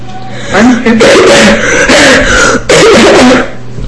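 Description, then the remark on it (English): Loud bouts of harsh coughing and throat clearing from a sick man come in about four rough bursts across a few seconds, raspy and strained, with no clear talking. “Sorry about that cough.”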